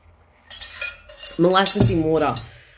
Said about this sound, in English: Please just try and keep up with my mind map this morning as I take a sip of my molasses in water.